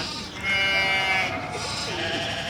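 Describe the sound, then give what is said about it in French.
Sheep bleat several times in a meadow where they graze on rich grass, their wavering calls overlapping against a steady background of rustling ambient noise. “J'accompagne ensuite les moutons dans le pré. Ils se régalent de cette belle herbe grasse.”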